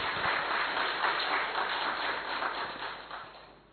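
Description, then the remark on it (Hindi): A crowd of course participants, welcomed by the Brahma Kumaris organization, applauds with dense, steady clapping that holds strong for about three seconds, then thins and fades out at the end. “जोरदार ताली आप सभी अपने लिए।”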